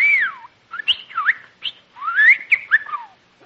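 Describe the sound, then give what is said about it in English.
Bird-like whistling and chirping from a bird called Bertie in a Lucky Strike cigarette advertisement: a long sliding whistle, then a quick run of short, twittering chirps and swooping notes, with no talking. “Say, you're a smart bird.”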